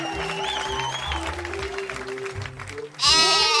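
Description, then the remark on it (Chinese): A loud sheep bleat bursts out near the end, as a little sheep is welcomed, following a few seconds of busy crowd noise and clapping. “接下来，让我们欢迎小绵羊。”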